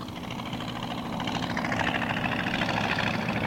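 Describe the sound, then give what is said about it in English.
The Kenner radial engine of a Ryan PT-22, a vintage low-wing Army Air Corps trainer plane, runs steadily, a loud, continuous rumbling drone with a rapid pulsing beat that swells slightly partway through. “Okay, that's a Ryan PT-22 with a Kenner engine.”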